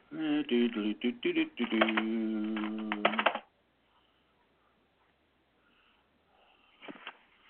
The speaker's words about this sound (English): You can probably hear me clunking on my ready-mix typewriter.